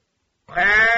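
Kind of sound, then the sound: animal, sheep bleating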